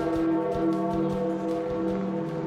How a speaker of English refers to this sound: The bell tolling for Pope Francis at the conclusion of his funeral in St. Peter's Square.